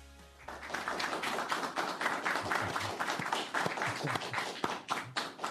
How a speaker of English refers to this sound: Well, all that applause that you hear in the background is we have a group of interns joining us in the studio today. They're all from Magna Corporation, the giant Canadian automotive supplier,